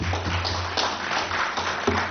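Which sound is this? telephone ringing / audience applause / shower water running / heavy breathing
audience applause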